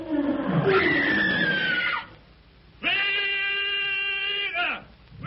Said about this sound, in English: Magra has strayed from the line of march and is attacked by a lion. At Numa's earth-shaking roar, Tarzan leaps upward, grasps the trailing vine, and flashes through the branches with breathtaking speed toward Magra.